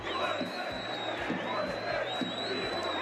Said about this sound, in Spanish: Greenwood muérete y Greenwood violador. La historia se repite, son los gritos que se escucharon en el sector de la grada ocupada por los aficionados de la Real Sociedad en el Coliseum.